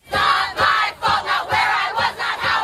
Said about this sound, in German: Lautstark protestierten damals hunderte Frauen vor dem New Yorker Gerichtsgebäude, als der Prozess gegen Harvey Weinstein losging.